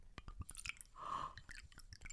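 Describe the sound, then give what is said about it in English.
Harvey's Bristol Cream sherry is poured from a blue bottle into a schooner glass: a few small clinks and taps, then a short, quiet trickling pour before more faint handling noises. No one speaks. “I'm going to pour it into my schooner glass.”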